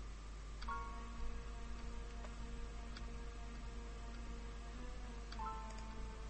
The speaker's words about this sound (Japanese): 雨はさらに強さを増していた。